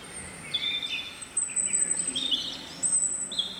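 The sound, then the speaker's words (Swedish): Several real birds, recorded at a home, chirp and sing outdoors, with high, bright overlapping calls and short trills coming in bursts over a soft, steady background hiss. No voices. “Här är ju fågelljudet då, det vanliga, riktiga så att säga. Det är fåglar som jag har spelat in hemma hos mig.”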